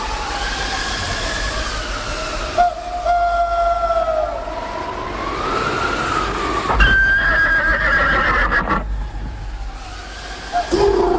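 Horses that have stopped in a field neigh in long, wavering whinnies that rise and fall, one after another, over a steady rushing background noise, with a sharper cry near the end.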